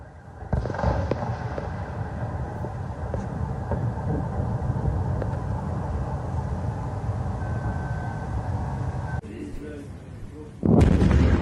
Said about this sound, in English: But this one ends up being drones that ended up smashing into Kyiv not that long ago.